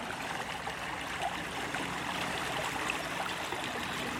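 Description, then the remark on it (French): Clean water of a small river stream, whose source is at the village of Créqui, flows steadily with a continuous bubbling rush, fairly loud throughout, and no voices are heard. “L'eau est très propre. On y retrouve maintenant des poissons, à certains endroits des écrevisses.”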